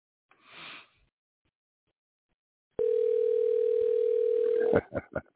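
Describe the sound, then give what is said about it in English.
A soft sniff, a pause, then a loud, steady low-pitched telephone dial tone that holds for about two seconds before giving way to a quick run of short beeps as numbers are pressed. “Let's see if we can't get him on the phone.”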